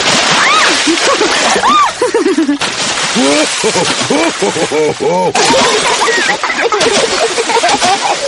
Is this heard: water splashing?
yes